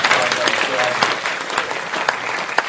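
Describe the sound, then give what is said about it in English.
Steady audience applause, a dense wash of many hands clapping at once, loud and continuous throughout with scattered sharper claps standing out. “Round of applause.”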